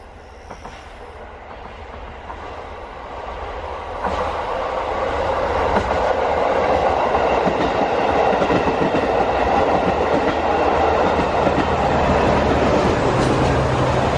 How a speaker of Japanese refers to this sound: 道路発車してからですね、その釧路川と一番接近するところをわーっとこう通過していく、そういったノロッコ号を、聞いていただきたいと思います。ここもですね、最初まず虫の音が入ります。で、徐々に列車が近づいてくるっていうようなことをちょっと聞いていただきたいと思います。